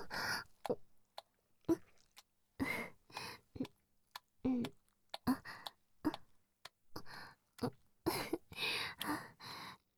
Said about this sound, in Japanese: 息を吹きかけられて、気筒がプクプクってなっちゃうご主人様、とってもエッチです。